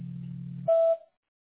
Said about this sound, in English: Please leave your message after the beep and I'll get back with you as soon as I can.